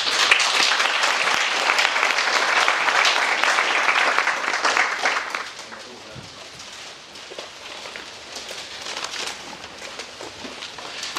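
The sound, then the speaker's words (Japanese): An audience applauds the lecturer at the end of a lecture in a loud, dense wash of clapping for about five seconds, then the clapping thins to a quieter, scattered patter that continues to the end. “もう一度拍手の方でお願いします。”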